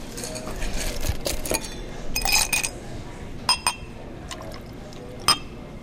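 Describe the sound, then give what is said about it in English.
Homemade red liqueur, made about three weeks ago, pours into a glass in short splashy gurgles, followed by a few sharp glassy clinks, with no one talking. “So I'm just going to give you a little taste of that.”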